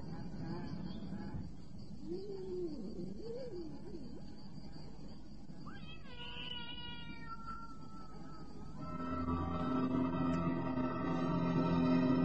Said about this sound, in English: He had heard the cat. Of this he was sure.